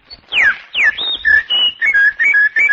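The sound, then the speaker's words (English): A person whistles a bird-like song by mouth, without any mechanical device, with quick downward-swooping chirps followed by a run of short, bright trills and warbling notes in a steady rhythm, no talking. “I whistle and twitter and sing like a bird.”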